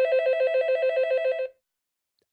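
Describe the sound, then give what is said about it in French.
A telephone, an unanswered call from Vladimir Putin's number, rings in a rapid, trilling burst of electronic tones, steady and fairly loud, lasting about a second and a half before cutting off into silence. “Fake news, on ne veut pas décrocher quand on voit le numéro de Poutine parce qu'il est trop méchant.”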